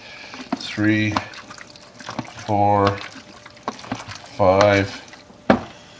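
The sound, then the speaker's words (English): Tap water sloshes and swishes inside a lidded container as it is inverted five times over about 15 seconds for a first wash, a few rhythmic surges of liquid heard alongside short bursts of a man's voice counting. “In the first wash, it says 5 inversions for 15 seconds.”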